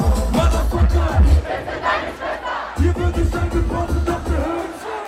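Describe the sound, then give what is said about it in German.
A concert crowd in Freiburg cheers and shouts wildly, a loud, sustained roar of many voices with rhythmic low thumps underneath, like music or stomping driving the excited audience. “Und das Publikum in Freiburg rastet aus.”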